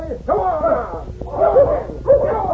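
dogs barking

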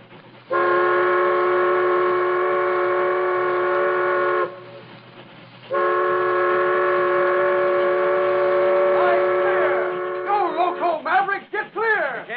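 steam train whistle

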